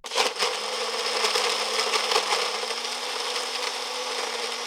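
A kitchen blender whirs loudly and steadily for a few seconds, its motor droning at a constant pitch under a gritty, grinding rush of noise, with no voices.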